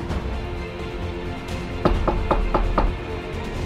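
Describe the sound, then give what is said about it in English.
Five sharp, evenly spaced knocks on a door land in quick succession about halfway through, rising over a low, steady background hum with no voices. “Who could that be knocking at my door at this hour?”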